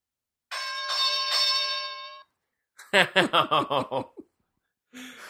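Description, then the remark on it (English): A single bell rings out clearly for nearly two seconds, its bright tone holding steady before cutting off, followed by a burst of rhythmic laughter and a brief voice. “Well, on that bell”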